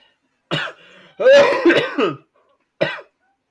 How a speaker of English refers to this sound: You may have to edit out my coughs. No, we're keeping it.